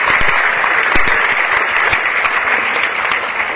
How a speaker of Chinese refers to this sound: 第三位，我们要感谢促成今天活动非常重要的一位我们的贵宾，也就是我们总统府的资政，我们的沈国荣资政也到现场，大家也掌声感谢他。